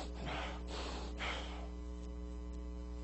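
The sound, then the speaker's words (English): Someone angrily huffs loud, heavy breaths through a flared nose, three forceful snorting exhales in quick succession, over a low steady background hum. “You ever see a person lose their temper and they start breathing heavy and the nose starts flared and they get all red in the face?”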